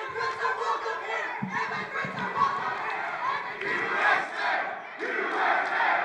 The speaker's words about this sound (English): Several times during the event, demonstrators interrupted Kirk, chanting slogans like "Immigrants are welcome here" or "Racists go home."